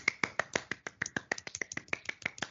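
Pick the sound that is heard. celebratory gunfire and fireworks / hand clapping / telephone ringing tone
hand clapping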